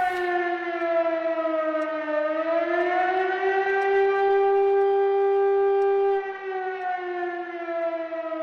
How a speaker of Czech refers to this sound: Kolísavý tón 2 minuty 20 sekund rovná se všeobecná výstraha obyvatelstvu.